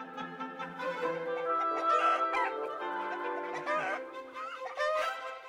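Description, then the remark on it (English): Orchestral music based on a 1727 harpsichord piece by Jean-Philippe Rameau, with a busy, repeated clucking figure, instruments mimicking hens with short pecking notes and sliding pitches over sustained chords, steady and moderately loud throughout. “This piece features a clucking motif, almost makes you feel like you're right in the backyard with the hens instead of at this lavish party.”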